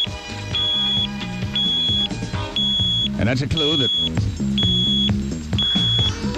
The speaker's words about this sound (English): And plus the boat, being a top-of-the-line cruiser, is built with an alarm system, so that if water starts to come on board the boat, a little alarm goes off.